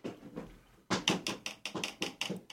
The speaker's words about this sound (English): Do you hear what I hear? Yeah, it's a tapping sound from outside the window.